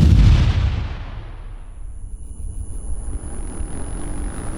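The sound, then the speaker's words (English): A sticky bomb thrown at a vehicle detonates in one heavy, booming blast, then fades into a long, low rumble and crackling debris with no voices. The blast knocks out the sensors on the vehicle's left side. “They're tossing something at us. Damn it! Sticky bomb!”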